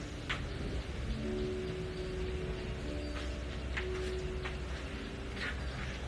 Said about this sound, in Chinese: 打雷了，外面下雨了，我们听一听雷声。